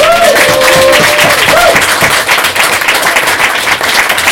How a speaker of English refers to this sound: Thank you so much. Please round of applause for all these sleeping and writing students